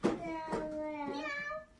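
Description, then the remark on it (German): A person mimics a cat, letting out a quick string of about four drawn-out, tonal meows in a row, fairly loud, with no other talking. “Die Katze, die läuft weg. Die sagt, miau, miau, miau, miau, miau.”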